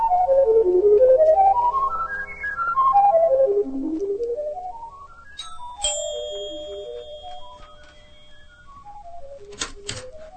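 A musical doorbell chime at a home at night plays a long tune of bright notes stepping up and down in pitch, with a sharp ringing strike partway through and a couple of clicks near the end.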